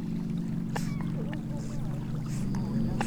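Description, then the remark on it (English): A dog swimming in the sea with a stick, holding its head above water, snorts in short, breathy bursts at irregular intervals as it approaches from a distance, with faint splashing water over a steady low droning rumble throughout. “From the distance, my microphone reels in the approaching snort of a dog holding its head in a stick above water.”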